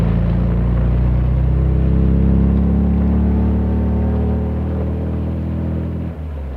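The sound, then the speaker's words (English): A loud sports car engine roars steadily with a deep, throaty hum, its pitch sliding slightly lower as it passes the end of a lane, then drops away abruptly near the end. No voices. “Is the sports car passing us? Yes, it is. It's passing the end of the lane.”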